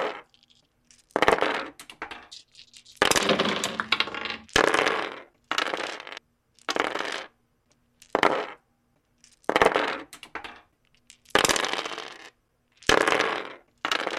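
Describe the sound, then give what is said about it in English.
Dice of different kinds rattle and clatter in a series of short, bright bursts, rolled to choose synthesizer modules for a patch, roughly ten separate rolls with brief pauses between them, fairly loud with no talking. “So I'm going to roll some dice and see which modules we're going to be patching up today.”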